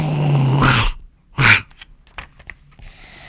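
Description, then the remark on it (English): A storyteller's voice imitates a story character's animal growl: a low, rumbling vocal growl followed by a sharp, breathy burst, then a few faint clicks and soft breaths, fairly loud. “Frank ran over and said, "Growl."”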